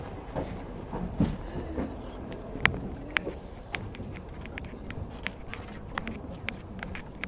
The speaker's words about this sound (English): Is this the last car? Or is there another one that was added? Oh, this is the last car. Look at this. It's the end. There's the window. The end of the train.